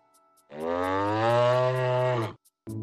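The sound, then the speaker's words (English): A cow gives one long, loud moo lasting nearly two seconds, deep and steady with rich harmonics, followed by the start of a second call just as it ends. “This is a cow.”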